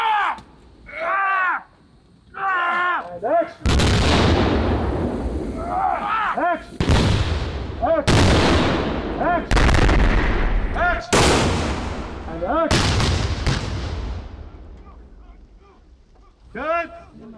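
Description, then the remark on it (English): Staged explosions on a film set during a take: roughly six loud booms in quick succession, each trailing into a rumbling decay, preceded by people talking and followed by a voice again at the end. “Everybody, in this particular take, we're going to introduce an explosion.”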